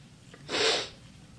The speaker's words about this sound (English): Whose nose is Daddy blowing? Daddy's nose. This one. That's tissue. Tissue, that's right. I'm your friend's house. You want Mommy to blow her nose?